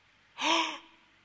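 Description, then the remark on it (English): A single sharp, breathy gasp, fairly loud, a quick audible intake of breath with a slight voiced edge, then quiet, as listeners react to a preacher's words. “And they both, as if on cue, gasp.”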